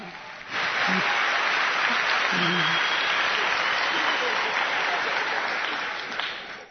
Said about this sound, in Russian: Ну так много людей ведь аплодируют вам. Спасибо, спасибо.